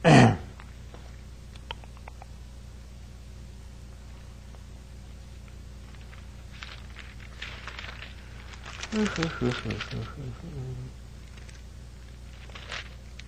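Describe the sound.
Pages of a Bible rustle and slide in soft, intermittent bursts as someone leafs through it searching for 1 Peter, with a brief murmured voice partway through and a low steady background hum.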